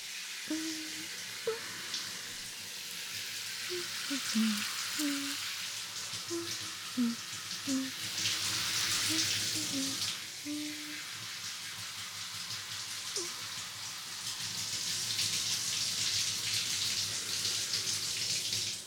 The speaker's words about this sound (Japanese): はい、 OK です。はい、シャワーはおしまいです。